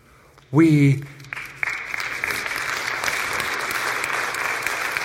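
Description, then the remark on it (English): A brief voiced sound rings out, then applause swells from the audience at the church at Brook Hills and keeps going as steady, dense clapping at moderate loudness. “I didn't expect a lot of applause, and that's okay.”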